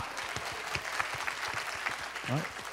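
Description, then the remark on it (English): A church audience at a River of Life worship service claps their hands together in praise, a dense, steady wash of applause with rhythmic sharp claps standing out, and a voice briefly rising over it near the end. “好吧，我们一起拍手赞美他，哈利路亚。”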